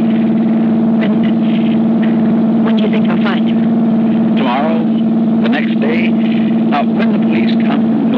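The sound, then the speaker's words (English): A car engine drones steadily, its low hum briefly faltering and stuttering as the motor misses and the car stops, while indistinct voices murmur over it. “The motor's missing. We're stopping.”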